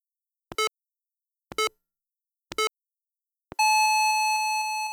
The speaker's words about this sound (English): So let's actually show you what that sounds like individually. So here's the English clock going off at 3 o'clock. It's 3 o'clock.